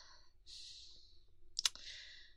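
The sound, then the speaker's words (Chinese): Rustling of fabric, like a hand digging through a pocket, followed by a brief bright metallic jingle and click as keys are pulled out at a front door while someone helps a drunk man home. No voices. “听话，听话，掏钥匙呢？”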